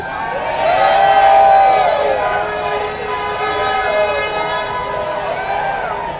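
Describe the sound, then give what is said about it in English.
A crowd of union workers at a United Mine Workers of America labor rally in Alabama cheers and roars continuously, with sustained, wavering horn-like tones blaring over the noise for about six seconds, loud and steady without any speech. “The man addressing the crowd is union boss Cecil Roberts.”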